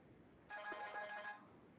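A new phone's ringer chirps in a brief electronic burst of bright, steady tones lasting under a second, at moderate volume over a quiet background.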